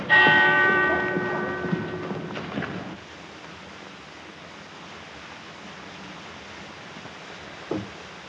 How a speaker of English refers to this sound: stop that bell tonight.